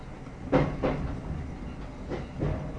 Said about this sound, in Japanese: 普通電車の熱海行きです。